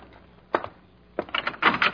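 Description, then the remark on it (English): A door is opened to check whether somebody is there: a single sharp latch click, a short pause, then a burst of rattling and knocking clatter as it swings open. No voices. “Well, if you're hearing things, go open it and see. Well, I will.”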